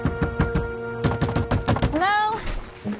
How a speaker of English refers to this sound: knocks at the front door of the house.